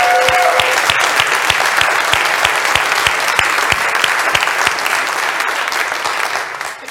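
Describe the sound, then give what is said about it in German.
An audience at a church service applauds steadily, dense clapping from many hands at an even loudness, with a few sharper individual claps standing out in a loose rhythm before it tapers slightly at the end. “Und für euch einfach mal der nächste Applaus.”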